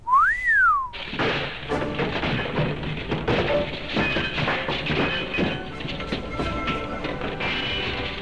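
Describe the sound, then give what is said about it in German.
A single loud whistle swoops up and back down in pitch on an opera house stage, then gives way to a busy wash of clattering, thumps and bustling noise as the stage crew rebuilds a castle set. “Ich meine, da steht die ganze Bühne einmal hier, pfeift.”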